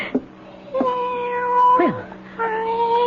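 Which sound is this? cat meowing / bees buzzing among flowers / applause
cat meowing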